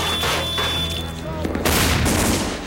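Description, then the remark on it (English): A rapid exchange of gunshots as Harry and Gradsky trade shots with gangsters and Nikolai fires back at a truck driver: sharp booming cracks pile up into a dense, loud barrage over a low sustained hum, with the firing growing heavier in the second half. “Harry and Gradsky trade shots with the gangsters.”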